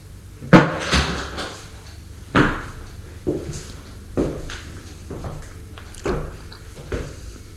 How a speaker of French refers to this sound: La porte s'est ouverte.